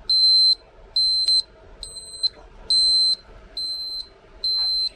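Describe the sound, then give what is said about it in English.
A cooking thermometer alarm in a bird roasting in the oven beeps six times in a steady rhythm as it reaches 180 degrees, each shrill, high-pitched tone lasting about half a second, loud, with faint background noise and no talking. “Well, they say it's beeping.”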